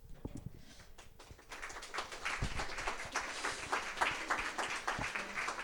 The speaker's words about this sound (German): Wir haben noch nichts geliefert und wir bekommen schon Applaus. Nice.